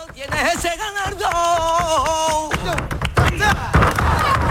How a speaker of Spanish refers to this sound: Pero palillos de dedo. Estamos escuchando los palillos con los dedos, las manos en la mesa, los pies. Eso es lo que acompaña al flamenco. Compás puro, compás.